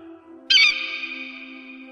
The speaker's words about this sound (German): Adler.